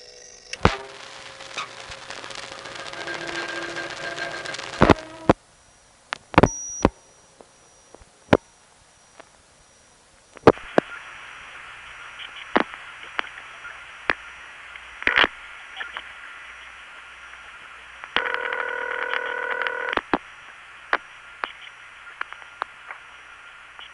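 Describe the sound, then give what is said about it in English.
Mechanical clunks and clicks from a crossbar telephone switch during a long-distance call dialed on a crossbar 1 phone line, irregularly spaced like doors thudding shut, heard over a hissy phone line with brief steady tones between bursts of static. “Instead, you get a series of noises that sound like a bunch of doors opening and closing.”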